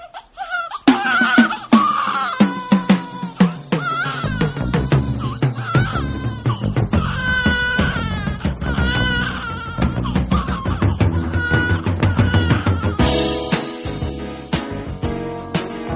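A newborn baby cries in thin, bleating wails, the cries mixed into a dense musical recording that plays throughout.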